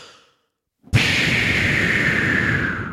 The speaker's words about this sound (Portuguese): Bombinha de fumo.